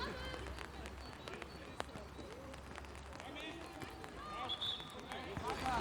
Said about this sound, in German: Wenn ihr das so ein bisschen tropfeln hört, dann ist das hier, weil es regnet und ich den Regenschirm auf habe.